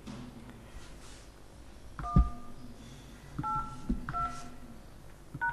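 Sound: telephone keypad DTMF tones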